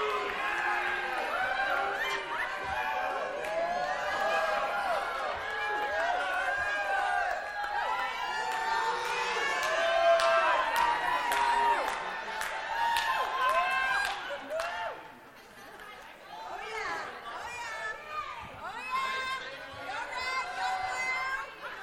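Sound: children cheering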